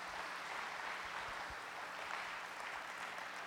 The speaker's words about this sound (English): You're not going to give the Lord a hand clap because you're not going to give up.